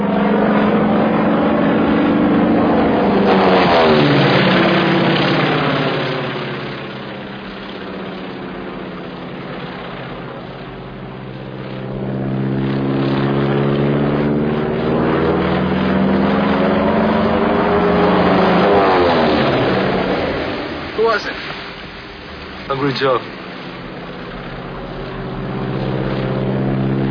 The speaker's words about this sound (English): How'd you crash this plane? It just flies past a mountain. And we have a little dust explosion we do as it flies past.